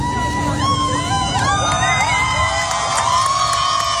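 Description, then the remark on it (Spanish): A large crowd of dozens of people cheers loudly and continuously for a marriage proposal in front of St. Peter's Square, with many voices whooping and shouting over a dense wash of clapping and excited babble, sustained throughout. “Los aplausos de decenas de personas y una pancarta larguísima, larguísima, en la que ponía ¿quieres casarte conmigo?”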